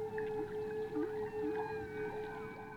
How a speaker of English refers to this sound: There's our friend Henry the Hudson Whale.